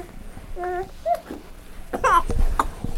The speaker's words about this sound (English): Cough, cough, cough. Cough, cough, cough, cough, cough. Cough, cough, cough. You all right? Yeah, you're all right.